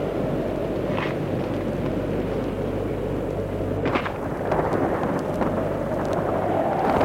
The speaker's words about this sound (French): Le vent, le tonnerre, le ciel qui devient sombre.